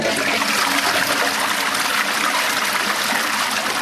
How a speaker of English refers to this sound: Now, you tell me how that water looks to you. He's just put his hand in the toilet bowl.